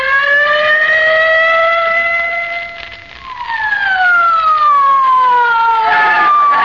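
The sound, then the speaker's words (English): A police squad car siren wails loudly and steadily as the car hurries to 79 Wistful Vista, its pitch sweeping slowly up and down in long rising and falling tones, with no voices. “Get in the squad car quick, oh, Molly.”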